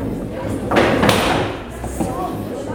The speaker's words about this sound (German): In der Lehrerbibliothek, dem Tagungsraum des Disziplinarausschusses, wurden eifrig Stühle gerückt und eine auf 14.20 Uhr terminierte Verhandlung vorbereitet.